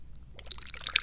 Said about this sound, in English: It is also the time at which we pour some tea.